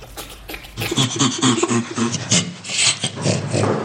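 Great ape laughter from bonobos, chimpanzees, gorillas or orangutans: rapid, breathy panting bursts in a steady rhythm, raspy and fairly loud, continuing without pause across the whole stretch with no talking.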